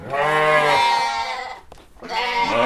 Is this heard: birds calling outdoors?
no